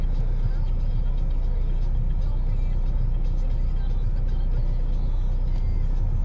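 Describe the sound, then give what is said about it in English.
A steady, close low rumble of a large vehicle running alongside in traffic, its engine and road noise droning continuously without a break for several seconds. “I don't understand what's happening with this truck next to me.”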